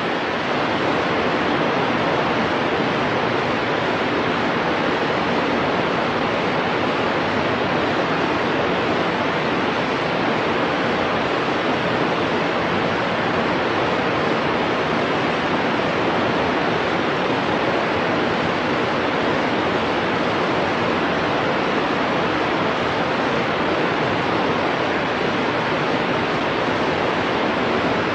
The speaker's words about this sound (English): which means that every note from the very bass end of the sound spectrum to the very top end of the frequency spectrum, we're going to broadcast every note possible at the same level, and consequently we get a hiss.